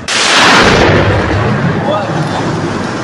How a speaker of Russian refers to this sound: Хорошо въебал, блядь. Смотри. Бля, нихуя мне взрывной волной ж, блядь, уебало.